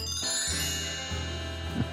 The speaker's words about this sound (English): Well, Jerry, hit us with the chime.